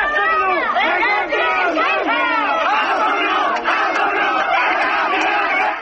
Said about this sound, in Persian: مراسم خاکسپاری پیمان گلبانی زندانی سیاسی کرد روز دوشنبه 19 تیرماه با حضور جمعیت چشمگیری در شهر مهاباد برگزار شد، جمعیتی که شعار می‌دادند که کاک پیمان قهرمان است، شهید کردستان است.